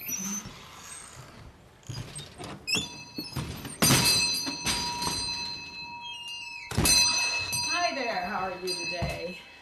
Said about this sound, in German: die Leiterin des kleinen Geschichtsmuseums, öffnet mir lachend die Tür des alten Holzhauses.